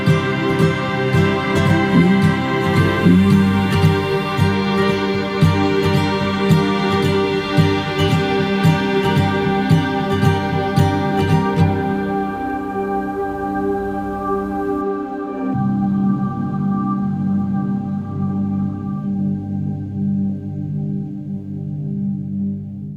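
A pop song with sung vocals plays at a steady, full volume; partway through, the bright upper layers fall away, leaving warmer sustained chords and a steady low end.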